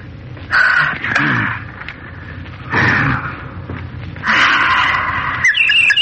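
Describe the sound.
A voice imitates bird calls at night, giving four harsh, croaking caws in separate loud bursts, with short pauses between them and no talking.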